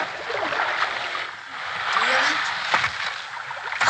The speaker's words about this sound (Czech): Po chvíli jsme zpozorovali, že naše loď na něco naráží a veslování bylo stále obtížnější.